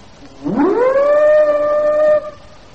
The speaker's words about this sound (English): I can't we use the siren, sir? They don't seem to be hearing me.